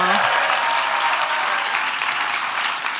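Steady, loud applause from an audience, a dense wash of many hands clapping at once that holds at an even level for the full three seconds, with no voices rising above it.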